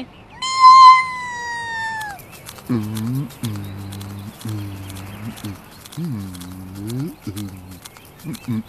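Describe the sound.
A single loud, drawn-out cat meow slides downward in pitch at the start, followed by a series of low, rhythmic vocal sounds that could be a person speaking.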